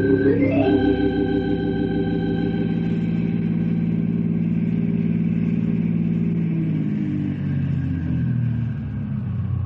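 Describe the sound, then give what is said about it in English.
A car engine starts up and revs, climbing in pitch, then settles into a steady droning hum as the car drives along, taking the fellows around sightseeing, tapering off near the end. No voices. “Now, you can use one of our cars to take the fellas around, Henry.”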